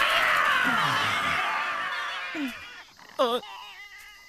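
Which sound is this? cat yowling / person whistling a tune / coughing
cat yowling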